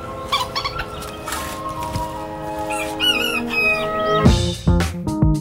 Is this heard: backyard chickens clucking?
yes